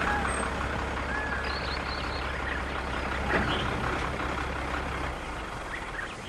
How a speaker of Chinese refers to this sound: 过了一会儿，就看见一辆汽车飞驰而来，在近处停下。